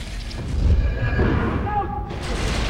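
A heavy stone door inside a pyramid grinds downward with a deep, continuous rumble and low thuds, thin scraping tones rising over the grinding before it settles shut as a staircase opens up.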